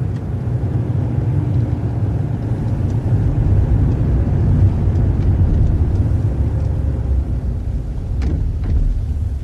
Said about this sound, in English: Burley Road. It was near here. Very near here. Stop the car. Pull in over there.